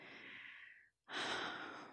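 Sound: exhaling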